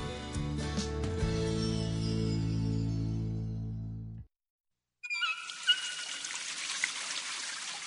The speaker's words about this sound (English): In the time you've been listening to this radio commercial, 6 gallons of water have been wasted, the same amount you could save just by turning off the faucet while brushing your teeth.